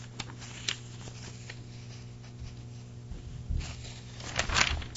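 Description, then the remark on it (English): Soft, papery rustling of a page of a printed publication being turned while it is read aloud, with a brief crisp swish early on and a fuller rustle near the end, set against a faint steady low hum. “Turning the page again, the year in climate 2024, an uphill battle.”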